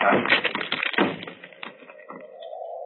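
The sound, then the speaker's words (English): The locked door of Dr. Roylott's room is forced open with a burst of loud crashing and splintering impacts, the clatter tapering off into quieter rattling. “But Holmes, the door's locked. Break it in.”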